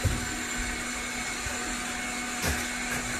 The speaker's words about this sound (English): He's 4 feet away from where these guys are operating a wet saw.